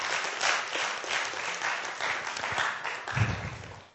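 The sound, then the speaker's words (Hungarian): A church audience applauds God steadily for several seconds, a dense wash of many hands clapping at a fairly even level, tapering slightly toward the end with no talking over it. “Csak adjunk egy tapsot Istennek.”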